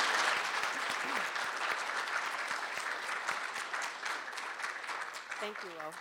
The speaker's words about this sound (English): I'd like to have a round of applause for our moderated panel today.